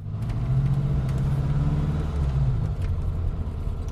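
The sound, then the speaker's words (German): A car drives steadily along the road, its engine a continuous low hum with a rumbling undertone. The sound stays fairly loud for the whole stretch, with no voices. The car is on the drive home. “Auf der Fahrt nach Hause zählte Luca keine Autos mehr.”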